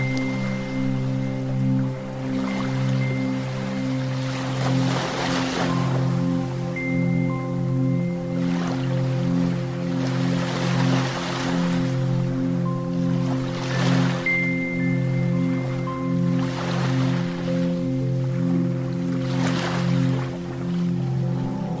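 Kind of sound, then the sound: nature, flowing water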